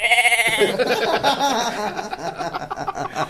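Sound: sheep bleating sound effect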